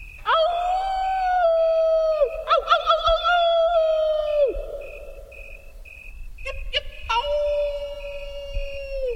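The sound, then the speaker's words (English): Wolves howling in long, sustained, steady notes that slide downward at the ends, several voices overlapping in a loud chorus, with brief pauses and sharp yelps between howls. “Also, if someone's going to sing, if you watch singers, typically they don't sing sitting down.”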